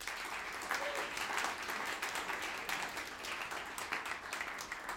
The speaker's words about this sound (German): Ihm dafür einen großen Applaus.